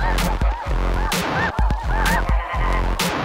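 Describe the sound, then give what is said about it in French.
A flock of geese in their natural habitat honks loudly and continuously, many overlapping nasal calls repeating in quick bursts, full, with no talking. “Pour se mettre en situation, écoutons des oies dans leur habitat naturel.”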